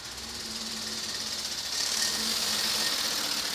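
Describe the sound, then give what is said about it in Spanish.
Fire engines at a wildfire in Tres Cantos, Madrid, Spain, in hot sun, again putting out areas extinguished the day before where smoke rises from the ashes: a steady engine drone with a low hum under broad hissing noise, growing louder and harsher partway through. No one speaks. “Es el sonido de los coches de bomberos que siguen apagando zonas que ya habían sido apagadas ayer y que ahora pues vemos cómo vuelve a salir humo de esas cenizas, porque está golpeando muy fuerte el sol aquí en Tres Cantos, sigue haciendo mucho calor”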